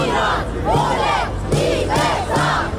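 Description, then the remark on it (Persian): A large protest crowd in Rome, Italy, chants the slogan "Woman, Life, Freedom" in unison, many voices rising and falling together in a steady, repeated rhythm of short phrases, loud and continuous throughout. “روم، پایتخت ایتالیا و فریاد زن زندگی آزادی.”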